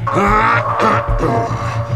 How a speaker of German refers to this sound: Ich habe so ein Räuspern doch neulich erst gehört. … hat sich so geräuspert.